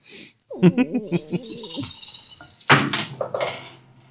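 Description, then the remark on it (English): Dice rattle in a cup for a couple of seconds, then clatter out onto a hard surface in a few sharp knocks, fairly loud, with a voice murmuring underneath at the start. “Let's roll it.”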